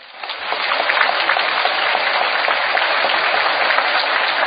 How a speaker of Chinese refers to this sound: 哎哎哎，这不是拍卖行啊，有没有搞错啊？台长说，那是当时的会场鼓掌。